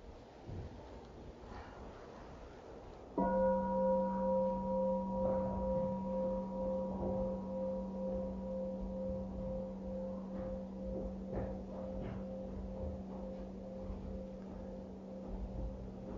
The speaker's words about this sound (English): And then we're gonna listen to and wake up the sound of the bell. It's coming. Oh, we're out here, but the bell means something. What does it mean? Bring it home. Let's listen to the sound of the bell.